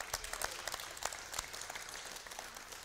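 An audience applauds steadily for a few seconds for a boy wearing a breastplate of righteousness made for a school project, many overlapping claps blending into a dense, even patter at moderate volume, with no one speaking over it.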